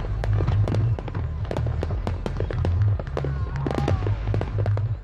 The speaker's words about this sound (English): Millions of Americans are celebrating those fireworks over Austin.